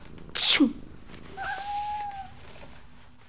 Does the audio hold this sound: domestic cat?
yes